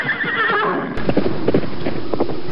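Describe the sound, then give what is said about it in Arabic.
A horse whinnies with a wavering, high neigh, then hooves clip-clop in a steady rhythm, loud and clear with no voices over them. “يا سلام، حصان رائع.”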